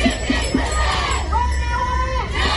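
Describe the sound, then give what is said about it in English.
A large crowd of thousands of protesting nurses and midwives, marching through Sydney's CBD to demand better pay, shouts and chants together. A dense roar of many overlapping voices, with one sustained, rising call above the din. No clear words stand out. “Thousands of nurses and midwives have abandoned wards and are marching in Sydney CBD demanding better pay.”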